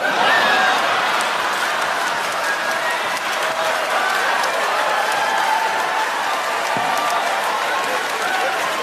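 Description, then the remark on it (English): An audience claps and cheers in thunderous applause as a performer finishes telling a story, a dense, continuous wash of applause with scattered shouts rising over it, loud and sustained for the whole stretch without any talking. “The audience is clapping and cheering as he breaks all this down, saying, "That's how trans people make me feel."”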